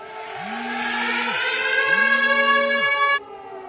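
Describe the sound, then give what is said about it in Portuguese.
An air raid alarm siren sounding in the streets wails steadily and loudly, a rich droning tone with two slow rising-and-falling swells underneath, then cuts off abruptly near the end. No one speaks. “E aí, além de todos os aplicativos, as pessoas ouvem isso no seu próprio celular, também tem alarmes que soam nas ruas.”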